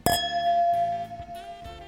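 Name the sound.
wine glasses clinking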